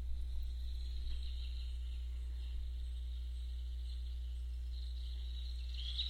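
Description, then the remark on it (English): Quiet forest ambience of birds and animals: a steady, high insect-like trill swells and fades over a low constant hum, with faint scattered creature sounds and no talking. “And as you listen to the sounds of the birds and the animals, I want you to imagine yourself as a tree.”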